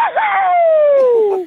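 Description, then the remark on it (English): A man who has just won a cash prize lets out a single long, loud celebratory yell, starting high and sliding steadily downward in pitch as it trails off. “Can you give it the greatest yell you've ever yelled out in the middle of the paddock or wherever you are?”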